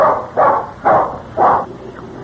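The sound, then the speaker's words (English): A dog sitting on front porch steps in the sun makes three short, drawn-out, talk-like vocal sounds in quick succession, fairly loud, with brief pauses between them and no people speaking. “That's a pretty good there, smart dog there, all right. Yeah, talks real intelligent.”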